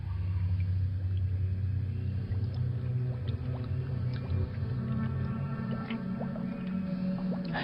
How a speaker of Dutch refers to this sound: Het water stroomt de verkeerde kant op. Er hangt een bovenmaatse waterslang in de bron. Iemand zuigt die rivier op.